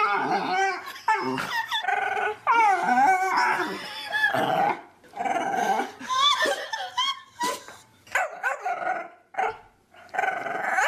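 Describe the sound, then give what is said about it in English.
A dog known as Chewbacca Dog makes long, warbling growls and moaning howls in a string of drawn-out vocal bursts, fairly loud, with brief pauses between them. “You guys heard of Chewbacca Dog?”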